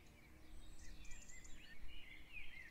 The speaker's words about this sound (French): Il règne un silence envoûtant, ponctué çà et là de jolis chants d'oiseaux.